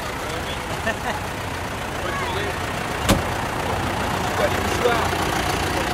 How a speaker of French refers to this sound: Et ça y est, les tracteurs démarrent. Ah oui, alors, on retourne à notre poste. Ça y est, c'est parti? C'est parti. Ah, ça y est, le deuxième tracteur démarre.